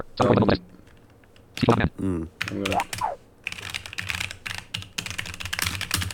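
Crisp typing on a computer keyboard: a few scattered key clacks, then a steady rapid run of clicking keystrokes. A brief vocal sound comes through early on.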